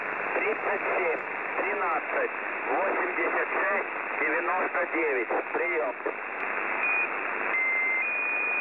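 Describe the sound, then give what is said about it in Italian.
A recording of a shortwave radio station broadcasting an undecipherable message crackles with band-limited noise and garbled speech-like warbling, then steady high tones sound near the end, each held briefly and stepping in pitch. “Sfumiamo l'ultima parte del tono della Squeaky Wheel.”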